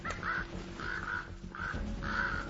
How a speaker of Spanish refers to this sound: Los cuervos arruinan el festín.